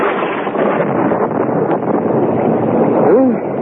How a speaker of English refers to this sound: Listen to that thunder. Bad storm. I hope the roof won't leak. It's this wind. It gets in underneath the roof tiles.